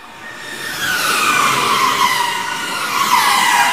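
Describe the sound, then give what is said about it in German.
A race car screams past at high speed during first free practice, driving one of its fast laps; its sustained high-pitched engine and tire noise hold loud and steady for several seconds, with a slight pitch sweep as it goes. “der sitzt im Auto und fährt gerade eine seiner schnellen Runden.”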